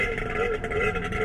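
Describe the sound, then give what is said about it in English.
A jet ski engine drones steadily with a buzzy, tonal whine and warbling harmonics that rise and dip slightly, continuous and fairly loud throughout with no talking. “Yeah, what you're hearing is a jet ski.”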